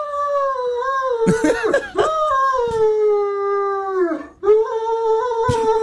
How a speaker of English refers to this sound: Is that the dog's reaction? Yes. When the dog was told that he was obese and the owner was told. Wow. The response from the dog.